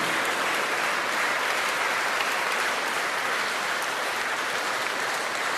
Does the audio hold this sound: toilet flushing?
no